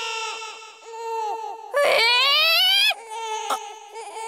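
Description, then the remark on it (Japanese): An infant wails, a sustained harmonic cry that rises sharply into a loud, strained scream in the middle before easing back into shorter whimpering sobs. “あ、赤ん坊だと？”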